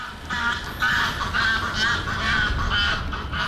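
Geese honk back and forth in a steady series of nasal calls, a female goose and her gander partner answering each other while the gander chases off other geese, over a low outdoor rumble, with no one speaking.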